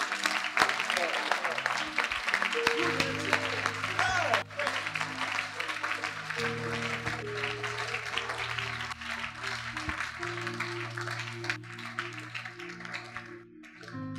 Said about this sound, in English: Clap your hands.